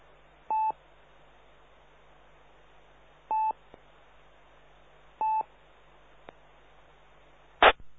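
A radio carrier keyed on and off three times with no voice, each keying giving a short beep-like tone burst over steady band-limited static, followed by a brief crackling burst near the end.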